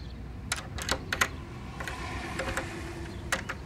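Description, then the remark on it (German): A key that does not fit scrapes and clicks in the lock of a treasure chest, with a quick run of sharp metallic taps and rattles at an uneven pace. It is fairly quiet, and nobody speaks. “Scheiße, der Schlüssel passt gar nicht.”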